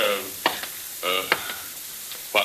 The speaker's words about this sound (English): Pat, get in there and turn the shower on.